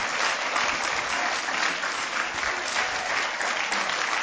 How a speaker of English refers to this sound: Shall we clap God for Jesus? Praise God.